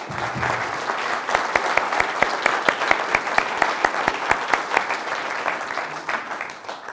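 An audience claps steadily for several seconds, dense overlapping hand claps with a few sharp individual claps standing out, even in loudness throughout.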